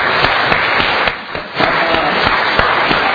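An audience applauds, dense overlapping claps forming a steady crackling roar that briefly thins for a moment in the middle before swelling again, with no clear voices above it.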